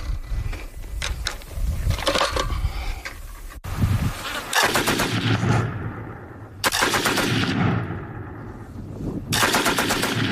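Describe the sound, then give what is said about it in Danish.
A Madsen light machine gun rattles off several loud bursts of rapid automatic fire, each string of shots ringing out with short gaps between them. “Today we're taking a look at a Madsen light machine gun.”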